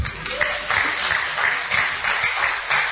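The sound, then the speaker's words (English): A crowd claps together for Jesus during a sermon in a steady, rhythmic beat, the bright bursts repeating every fraction of a second over a broad wash of noise, fairly loud throughout. “Clap for Jesus.”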